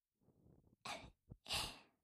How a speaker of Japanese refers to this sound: あくび、眠そうだね。